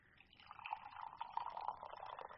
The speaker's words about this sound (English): Oh, listen to those frogs.